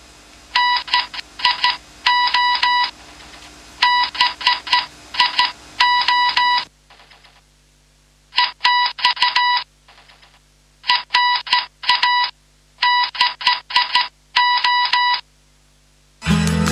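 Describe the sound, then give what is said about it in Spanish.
A Morse code signal: a buzzy, steady-pitched tone keyed on and off in quick beeps of short and longer lengths, grouped with brief pauses between, sounding alone without any voices. “A ver, algo del Código Morse para que escuchemos, son un par de segundos.”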